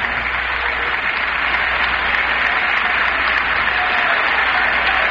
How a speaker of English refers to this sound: Mr. Nixon said a day or so ago that he thought he might be interrupted 35 times for applause on this speech, in case any of you want to keep going.